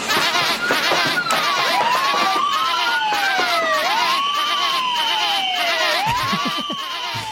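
A loud alarm siren wails, its pitch sweeping up and down in repeated cycles over a noisy, busy background and a steady high tone, part of a homemade audio micro drama, Crime Don't Pay.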